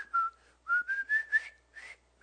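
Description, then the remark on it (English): A jaunty whistled march tune from the film Bridge on the River Kwai, a string of short bright notes in a steady marching rhythm, clear, with no one talking. “I mean, you probably heard the whistling.”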